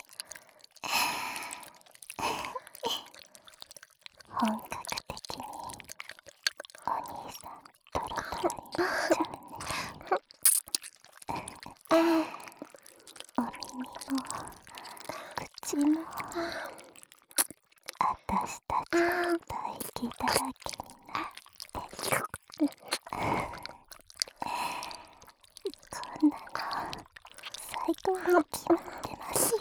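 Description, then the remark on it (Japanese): Wet mouth-to-mouth kissing and lip-smacking sounds repeat in an irregular stream, mixed with soft breathy exhales and sighs, quiet and intimate throughout with faint whispery breath between the smacks. “私はやっぱりお兄さんの口にキスするしかないですね。”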